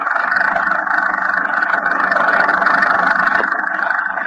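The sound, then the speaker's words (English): A small car engine drones steadily and loudly as the car drives along a muddy highway through a lightning storm, a constant rough hum with a rushing, noisy texture that never lets up across the whole stretch, with no voices. “The little car lurches and bounces in its white heat center of the highway.”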